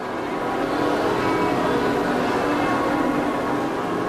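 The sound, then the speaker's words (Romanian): A dense, continuous clamor of church bells ringing together in celebration at the São Bento monastery in São Paulo, Brazil, as the Pope arrives, loud and sustained with overlapping tones, filling the whole stretch without pause and with no voices. “Aici a fost primit de clopote în sărbătoare, aplauze și manifestări de bucurie.”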